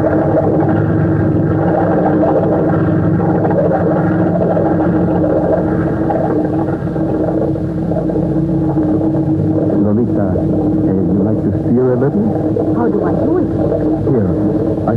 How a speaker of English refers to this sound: Look, I will start the engine. Oh, listen to that.